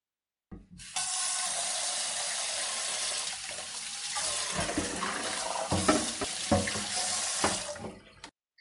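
A kitchen tap runs steadily into a sink as two people wash dishes, with intermittent clinks and splashes of dishes being handled under the flow, fairly loud, no one talking.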